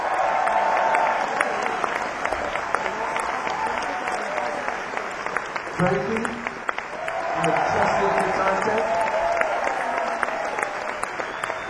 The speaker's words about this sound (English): I'd like to give … a round of applause.